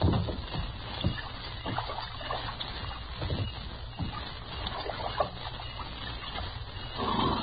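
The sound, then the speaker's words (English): A buckskin horse drinks water, a steady stream of wet slurping and sloshing with small splashes running continuously, no voices, and a low rumble in the background. “This tussy buckskin can drink more water than a Texas mule.”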